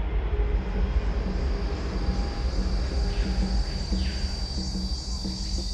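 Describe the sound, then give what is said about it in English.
An airplane engine drones steadily overhead, a loud, continuous low rumble with a faint high whine, holding at an even level throughout with no voices. “Remember that plane stuffed with 5 tons of cocaine in Campeche?”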